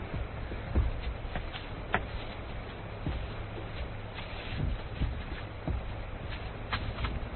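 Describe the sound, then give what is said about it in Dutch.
Slow, irregular footsteps crunch over gravel, each step a short gritty scrape over a low steady hum, with no voices. “Grind.”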